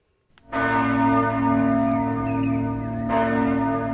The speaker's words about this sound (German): Wenn heute um 12 Uhr mittags die Zuger Chresi-Glocke läutet, dann rennen die Zuger los, groß und klein mit Holzleitern, durch ihre Altstadt.